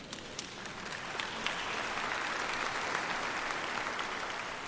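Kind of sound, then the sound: crowd, audience clapping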